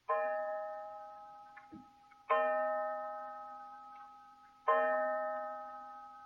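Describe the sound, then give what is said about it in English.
A clock strikes three times, each loud, resonant chime ringing out and slowly fading before the next, spaced about two seconds apart, with no voices. “Five o'clock.”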